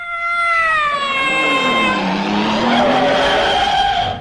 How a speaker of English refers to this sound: Heavens, a 95-foot long motor car covered in mink. It must be Peter Sellers.